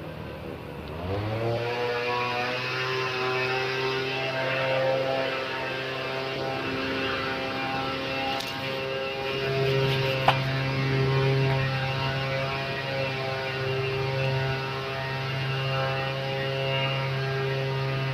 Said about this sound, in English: I assume that's a leaf blower. Whatever it is, it's noisy.